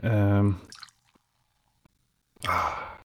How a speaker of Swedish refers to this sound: gud vad gott det låter när du häller upp den här kolan. Jag är så jävla avundsjuk varje gång.